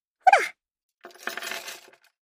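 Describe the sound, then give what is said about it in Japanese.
A quick bright metallic clink, then about a second of a handcuff key jingling and rattling, fairly soft, with no talking. “鍵は、ここ。”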